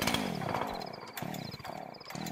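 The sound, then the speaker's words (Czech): A saw rasps steadily through soft spruce wood, its tone squealing and warbling up and down with shrill high whines, loud for the whole stretch with no one speaking. “Testera kroz meku smreku klizi, dubi, pili, cvili, laje, muče, mjauče, bruji, zuji, frkće, drće.”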